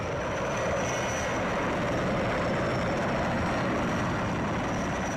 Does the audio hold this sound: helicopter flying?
yes